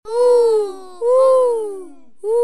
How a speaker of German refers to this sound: Was war das gerade? Das war doch bestimmt die Eule.